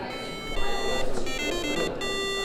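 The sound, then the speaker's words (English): A homemade alarm clock built by high school students in SMU's makerspace, the Decent Innovation Gym, rings with a steady, shrill electronic buzz, sounding continuously and fairly loud over a noisy background, with no talking. “Chan Hin and his three teammates are building their own unusual alarm clock”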